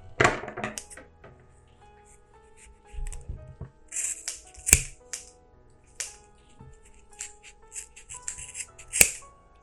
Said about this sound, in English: So just poke your scissors in and kind of pull up and just snip away until you've got all of those loops opened up.